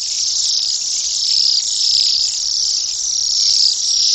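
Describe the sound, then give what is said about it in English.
A dense chorus of Bohemian waxwing calls: high, thin, buzzy trills overlapping into a steady, fairly loud shimmer that swells and dips slightly, with no talking. “These birds are a bit larger and much noisier. They sound more like guinea pigs snoring.”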